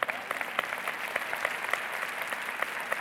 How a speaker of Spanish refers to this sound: Y aquí todo el mundo tenía que aplaudir.